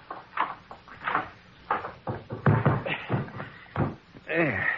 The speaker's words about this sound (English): You see that linen closet across the hall? I see. You want some help? Nope. Just open that closet door.